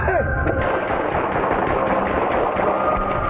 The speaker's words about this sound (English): We're in 236, hold traffic, shot fired. 8500 East 41st Street, extended stay.